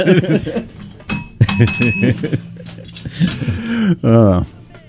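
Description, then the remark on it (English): A bright bell dings several times in quick succession, fairly loud, while voices chatter underneath and around it. “Where's the bell?”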